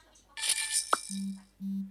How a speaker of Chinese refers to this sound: 我先给我这个号码发一下红包，红包金额啊什么我都输入好了，我现在马上来确认啊，来确认发送红包，大家注意听一下这个音效啊。